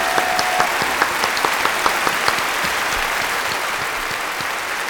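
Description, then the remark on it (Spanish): A crowd claps steadily, a dense wash of overlapping hand claps with a few sharper claps standing out early on, sustained at an even level throughout, applauding Levante Unión Deportiva president Pablo Sánchez after the club's promotion. “Un aplauso para él.”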